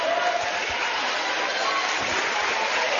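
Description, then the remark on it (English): The Montgomery crowd at a basketball game claps steadily for about three seconds for a player leaving the game, a dense, even wash of applause that holds its loudness throughout without any clear voices on top. “They'll get a nice hand from the Montgomery crowd here in attendance.”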